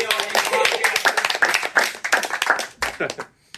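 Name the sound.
people clapping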